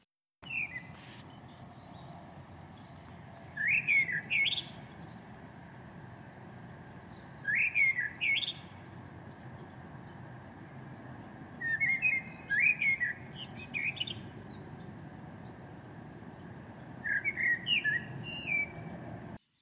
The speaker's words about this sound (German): Hört gut zu. Als erste darf ich euch die Amsel vorstellen.